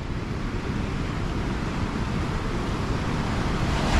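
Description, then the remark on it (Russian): A steady roar of ocean surf fills the whole stretch, broad and rushing, swelling slightly louder toward the end, with no voices over it. “Океанище-то.”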